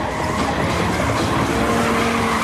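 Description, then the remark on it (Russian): A car engine runs loud and steady at speed, a continuous droning roar with a strained, whining edge and a faint tire hiss, without any voices. The car is speeding in minus 20 degree cold with a frozen brake pedal, and the engine keeps running. “А двигатель работает и, похоже, не собирается останавливаться.”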